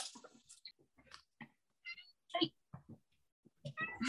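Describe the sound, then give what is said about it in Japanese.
A cat named Yuzu meows a few times in short, high, whiny calls, moderately loud, scattered among quiet rustles and soft human vocal sounds. “虹出てるって言ったら、ちょっと猫来た。”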